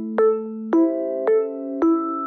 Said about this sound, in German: Und dann gibt es den Sondergong, der klingt dann schon sehr anders, der einfach klar macht, so Leute, jetzt mal zuhören.